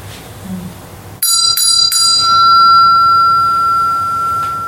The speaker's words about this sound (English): So the bell representing the wisdom element. It's a silver bell with a Vajra handle. So like these ones here, silver bell with a Vajra handle.